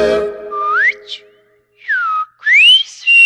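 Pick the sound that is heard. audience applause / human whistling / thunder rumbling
human whistling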